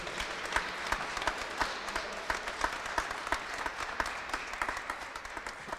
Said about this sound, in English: It is great to see you all here in church this morning. Give God a round of applause this morning.